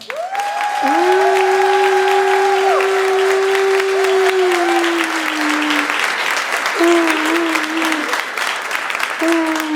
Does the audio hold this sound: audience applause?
yes